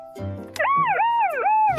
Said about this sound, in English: Keep or go? Siren's broken. It can go.